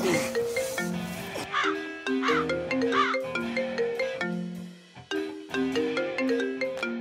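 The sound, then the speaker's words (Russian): A phone rings with a bright, melodic ringtone, a tune of short electronic notes repeating in loud phrases throughout, with brief gaps between loops and no talking. “Телефон звонит. Подними трубку хотя бы.”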